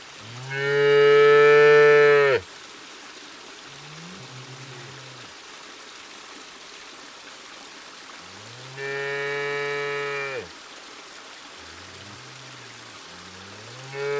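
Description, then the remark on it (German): A whole herd of cattle in fields along a small river mooing: one long, loud bellow, a second call later, and fainter lowing from other cows in between, over a steady soft background rush like flowing water. “Du schwimmst vorbei an Bäumen, an Feldern, ja sogar vorbei an einer ganzen Kuhherde.”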